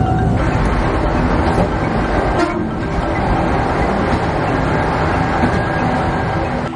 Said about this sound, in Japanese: まもなく2番線に電車が参ります。 岡場駅に着きました